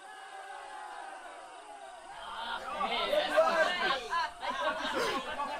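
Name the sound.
crowd cheering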